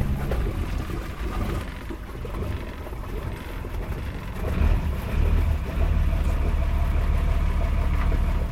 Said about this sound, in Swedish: Båten glider majestätiskt ner i vattnet och där lossar man på lämmarna och där flyter hon. En stor Grand Banks. Nu drar han igång motorn.